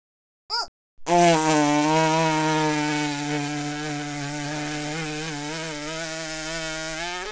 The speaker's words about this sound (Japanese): うん、大きいおなら出るわ。